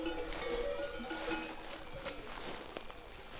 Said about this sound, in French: Quand il y a beaucoup de bruit de cloche, c'est qu'il y a un gros mouvement de foule et donc elles lèvent la tête de leur herbe, elles voient vers où c'est.